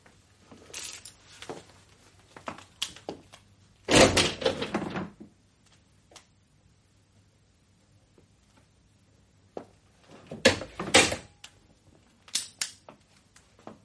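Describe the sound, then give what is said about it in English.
A door is opened with a sharp clatter of the latch and a loud rattling thump, followed by quiet scattered clicks and another burst of rattling handling noise. No one speaks. “Open the door and see if you can catch anyone outside.”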